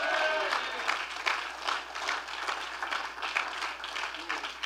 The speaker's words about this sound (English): I wish you'd clap your hands and shout amen.